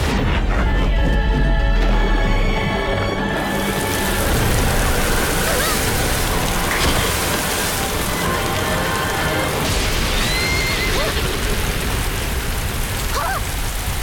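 A deep rumble of thunder opens, then gives way to a steady, loud downpour of heavy rain drumming on surfaces, continuous to the end.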